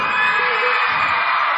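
A large concert crowd in Blackpool roars with sustained cheering and whooping, a dense, loud wash of voices that fills the whole moment with no break.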